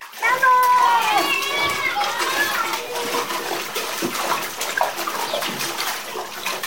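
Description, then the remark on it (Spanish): Children shout and squeal while river water splashes continuously around them on a hot, sunny day by a large waterfall, a lively, busy scene of kids playing in the river, with high excited voices and constant splashing underneath. “Con el día de calor, optaron por meterse al río y jugar un rato en ese lugar.”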